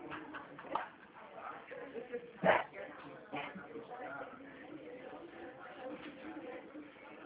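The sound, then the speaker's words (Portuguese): A female dog lets out a short, sharp bark partway through a phone call, heard over a muffled phone-quality line with low background murmur and voices around it. “Só um momento, tá? Minha cachorra quer falar também.”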